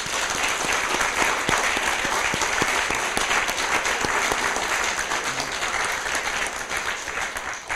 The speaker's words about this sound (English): And let's do a big round of applause for the winners once again.